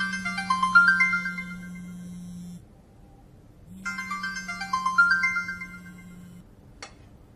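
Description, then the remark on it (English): A mobile phone ringtone for an incoming call from Arash plays a bright, melodic electronic tune over a steady low hum, repeating twice with a short pause between, ringing on without being answered during a meal. “So why didn't you answer? I told him before that I wouldn't answer if I'm at work or eating a meal.”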